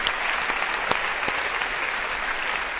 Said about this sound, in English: This is a room filled with freaking warriors. Yeah, let's clap for it.